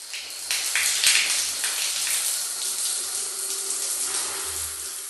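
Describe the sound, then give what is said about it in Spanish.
Steady running water pours from a tap, a continuous hiss and splash filling a bath, with no one speaking. “Juicioso, voy a bañarme.”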